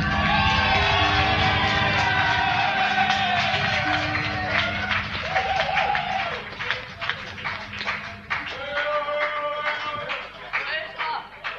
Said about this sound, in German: Hey, Applaus!